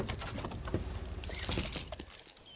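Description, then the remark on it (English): Someone climbs out of a car at a park lodge's entrance, with shuffling movement, a bright jingle of keys and soft clicks and thumps over a low idling rumble; nobody speaks. “gets out of the car.”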